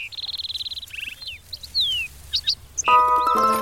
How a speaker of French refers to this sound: Comme pour confirmer ce que dit papa ours, l'oiseau se tourne vers petit ours brun avant de piailler. Ah, cui-cui, ça veut dire coucou en oiseau, c'est ça? Cui-cui, cui-cui.